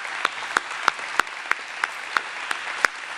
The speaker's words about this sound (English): He is a superhero, and I want to hear a very loud round of applause for him.